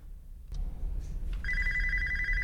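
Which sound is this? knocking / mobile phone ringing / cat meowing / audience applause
mobile phone ringing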